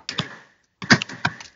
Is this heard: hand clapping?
no